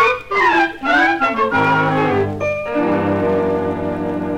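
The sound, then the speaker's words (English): A loud horse whinny with a quavering, wavering pitch, followed by a steady sustained tone that fades gradually; no one speaks. “these are the sweetest horses.”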